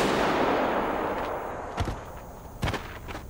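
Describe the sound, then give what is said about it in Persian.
Two sharp gunshots crack out less than a second apart during a game of Red Light, Green Light as player 324 is eliminated, against a steady rushing background hiss, each a brief loud bang with a low thump beneath it. “شلیک؟”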